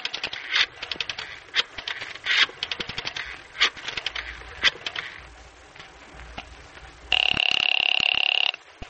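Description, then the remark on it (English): A string of sharp clicks and scraping taps, like a phone being handled or dialed for a call from a railroad terminal, gives way to one loud, steady electronic telephone ring lasting about a second and a half near the end. “Unaware of this, Freddie makes a phone call from the railroad terminal.”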